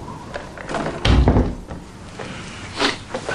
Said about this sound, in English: Come on in. It's Warren. He shuts the door behind him.